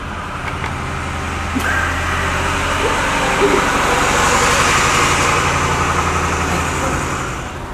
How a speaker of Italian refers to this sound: Ci abbiamo il trattore.